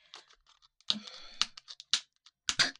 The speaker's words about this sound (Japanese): ちょっと開けますよ、開封。ハサミでね。ハサミで、この、あ、ハサミダメだ。ちょっと、ハサミが貫通できなかった。ちょっと待って、このちょっと。